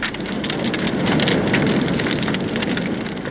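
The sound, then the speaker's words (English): A roaring bonfire at night burns a straw-stuffed guy soaked in paraffin, crackling and hissing steadily, dense pops and snaps layered over a constant rushing burn as a supporting plank cracks and splinters, fairly loud throughout with no voices. “He appeared to gain great satisfaction when the plank cracked and splintered, and the weird figure it had been supporting slid slowly into the holocaust below.”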